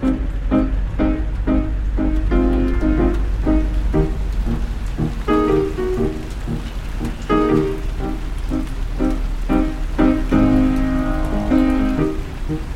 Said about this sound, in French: Une tempête a éclaté, bien au-dessus de la place. Tonnerre et crépitement.